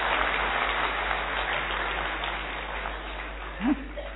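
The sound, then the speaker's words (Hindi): An audience claps steadily for about four seconds, a dense, even patter of many hands that fades slightly toward the end, with a brief vocal sound just before it stops. “बहने ताली भी नहीं बजाती, इतनी अच्छी बात बता सब.”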